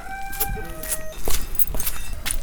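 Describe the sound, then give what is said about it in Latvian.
A rooster's drawn-out crow trails off in the first second, followed by scattered clucks and rustling from chickens on the grounds around a school, with a steady outdoor noise underneath. “Skolas apkārtnē rušinās vistas un gailes, uz skolas lieveņa dzied kanārija putniņi, un tādējādi jaušams, ka dažādu dzīvu radību un dabas klātbūtne skolā ir ļoti svarīga.”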